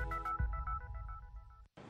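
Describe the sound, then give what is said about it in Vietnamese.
A telephone rings with a quick, warbling electronic trill of repeated tones, steady, cutting off abruptly near the end before a brief burst of noise. “Nếu đang lang thang ở quảng trường thời đại và nghe tiếng chuông điện thoại reo nên tôi bắt máy, hãy làm theo bản năng của mình.”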